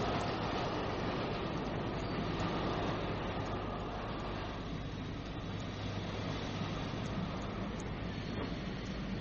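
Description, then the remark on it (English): A train rumbles steadily along the rails as it runs through a switch into a railway siding, a dense, continuous roar of wheels and carriages that stays even for several seconds, with no voices. “Just got to the switch in time. Your famous ghost train is running into the siding.”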